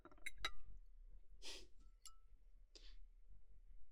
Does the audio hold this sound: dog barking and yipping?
no